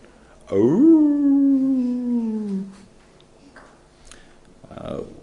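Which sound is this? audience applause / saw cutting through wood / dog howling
dog howling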